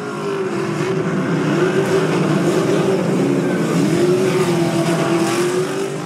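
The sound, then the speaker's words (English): Race car engines roar continuously at high volume, their pitch rising and falling as cars accelerate and sweep past, with a dense, steady wash of mechanical noise throughout. “And during broadcasts, race fans can barely be heard over the roar of engines, until a winner crosses the finish line and does donuts in front of the grandstand.”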